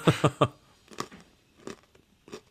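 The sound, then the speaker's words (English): Crunching of a hard sweet, bigger than a Revel, being chewed: three sharp, loud bites in quick succession, then softer, slower crunches spaced out over the next couple of seconds, with no talking. “Right, it's crunchy.”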